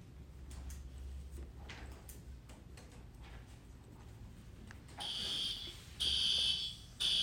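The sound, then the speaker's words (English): A fire alarm blares in loud, harsh bursts with a high shrill tone during a test with students, starting partway through over a murmur of room noise and repeating in on-off pulses. “Is that a fire alarm? There's not supposed to be a fire alarm today.”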